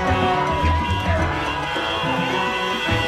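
A loud, continuous crowd din of many voices at a street protest, with sustained car horn tones blaring through the noise for the whole stretch.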